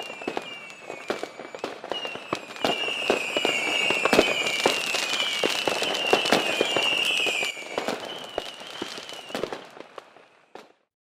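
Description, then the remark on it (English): A rapid barrage of fireworks bursting and crackling, with sharp pops layered over rising whistles, continuing densely for several seconds before thinning out and fading near the end. “Suddenly, a fireworks show starts with a loud music.”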